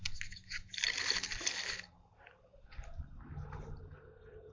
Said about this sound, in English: You like playing with a balloon. Balloon moving.